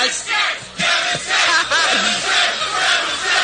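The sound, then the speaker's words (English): A crowd jeers and shouts at the hosts over a joke, a loud, continuous roar with many overlapping voices yelling and booing in waves that swell and dip over a few seconds. “This crowd is ready to turn on us in a moment, aren't they?”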